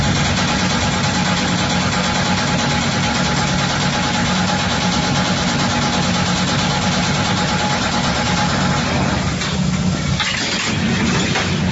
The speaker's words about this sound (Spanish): Ahí pueden escuchar cómo vibra este ascensor, no tiene puerta interna, empieza a vibrar en el piso 4, no para en el tercero, y el operador, como dije hace un momento, debe mantener un botón presionado para que no se detenga.